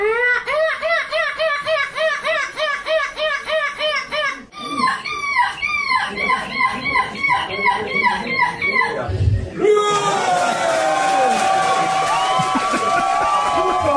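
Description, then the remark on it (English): A British man in a seagull costume, competing at the European Gull Screeching Championship, mimics a seagull with rapid, repeated high-pitched screeches and cackling calls, pitch bending up and down in quick bursts, ending in a flurry of overlapping shrieks and a crowd reacting. “All right, the European Gull Screeching Championship.”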